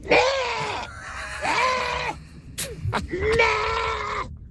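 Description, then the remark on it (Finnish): A person imitates a llama's call in an animal karaoke game, with three long, harmonic, bleating-groan cries, each rising then holding, separated by brief pauses with a few sharp clicks between them; fairly loud. “Todellakin, laamaa matkitaan tänään eläinkaraokeessa.”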